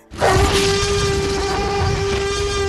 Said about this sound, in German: Hier hören wir ihn schon brüllen, den T-Rex.